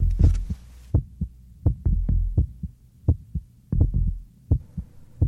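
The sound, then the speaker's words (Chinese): A heartbeat sound effect: deep, muffled lub-dub thumps in a steady, fairly quick rhythm, about ten beats over five seconds, prominent with no voices or other sounds. “活着有呼吸，有心跳，有体温，这叫生存。”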